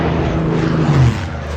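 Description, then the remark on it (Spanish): A loud, steady roar of aircraft engines with a low humming drone that swells and shifts upward in pitch near the middle, as two airplanes in a film scene swerve past each other at the last second and avoid a collision. No voices. “Bueno, para que el personal no pase más angustia de la necesaria, Álvaro, en la peli hay dos aviones que en el último segundo se esquivan y evitan el accidente”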